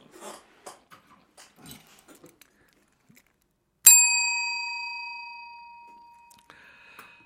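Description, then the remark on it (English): A single bell is struck once, giving a bright, clear ring that slowly fades over several seconds. Soft rustling and handling noises come just before the strike. “Right, so I need to find a bell.”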